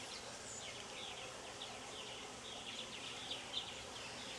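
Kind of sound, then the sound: insect, honeybees buzzing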